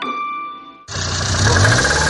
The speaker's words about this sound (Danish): Nej, sådan skal bilen da vist ikke lyde.